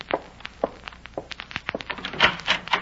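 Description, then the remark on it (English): A door is opened: a run of sharp clicks, taps and soft thuds from the latch and handle, spread unevenly over a few seconds, with no voices. “The door. Do you think it might be? If it is, shall I let him in?”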